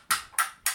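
Three bright, hollow clacks of eggshells knocked together, evenly spaced about a third of a second apart, each sharp at the start and fading quickly, with no voices.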